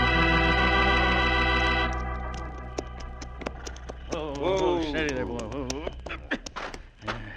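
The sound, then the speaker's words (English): Horses' hooves, one horse called Diablo, clip-clop in a steady, uneven walking rhythm toward a grove, following a sustained droning tone that fades out; a wavering voice-like cry rises briefly in the middle. “Nobody can see these horses from the street if we leave them here in this grove”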